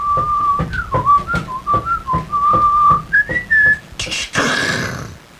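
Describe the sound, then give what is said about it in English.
A bird whistles a bright, wavering melody of sustained mid-pitched notes with small upward and downward slides, over soft rhythmic tapping, ending in a sudden burst of rustling noise. “Sorry, that little bird always teased me off.”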